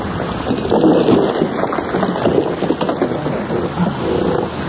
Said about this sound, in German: Da. Der Baumstamm hat das Boot gerammt. Es stürzt ab.